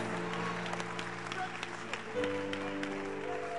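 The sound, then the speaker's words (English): A crowd of worshippers praising God claps steadily throughout, the dense patter of many hands running beneath sustained musical tones or singing, moderately loud with no pauses. “Here we are. Clapping our hands.”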